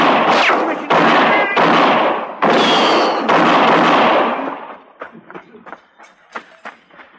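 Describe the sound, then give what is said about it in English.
A rapid volley of loud gunshots fired after an order to shoot a man during a shootout with a marshal, several overlapping blasts for a few seconds, then trailing off into scattered, fainter pops and clicks. “All right, you men are covered. Get your hands up. Shoot him.”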